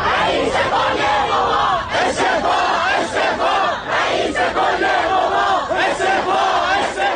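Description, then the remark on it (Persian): A large crowd of protesters in Tehran chants loudly in unison, many voices shouting together in a steady rhythmic pattern that rises and falls every second or so, dense and continuous throughout. “اما سپس در پی فشارها مجبور شد مسئولیت سرنگونی هواپیما را بر عهده بگیرد و پس از آن اعتراض‌هایی در برخی مناطق تهران به ویژه دانشگاه ها شکل گرفت.”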